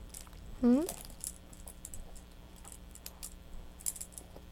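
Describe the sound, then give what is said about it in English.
Keys on a key ring jingle and clink lightly and irregularly, with scattered small metallic taps throughout and a brief rising vocal squeal near the start. “You gonna let go of those keys at all?”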